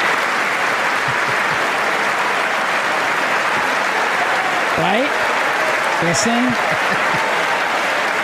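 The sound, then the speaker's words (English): Loud, sustained applause from a large audience fills the whole stretch, with a few shrill whistles rising through it near the end. A voice speaks briefly over the noise. “Now listen to the applause, the whistles.”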